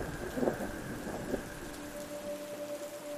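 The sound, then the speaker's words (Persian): Heavy rain pours steadily in a dense, continuous hiss, with a low rumble of thunder swelling briefly early on and a faint tonal hum underneath. No one speaks. “بارونم شدیدتر شده بود، انقدر که اصلا نمیشد زیرش وایسا چه برسه بخواد کار کنی.”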